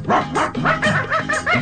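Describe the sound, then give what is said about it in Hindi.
Several dogs of a settlement bark rapidly and loudly in an overlapping, excited burst, with about half a dozen sharp yelps and barks packed into under two seconds. “उस बस्ती के कुत्तों ने उसको देख लिया।”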